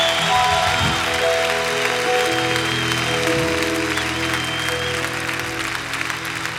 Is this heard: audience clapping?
yes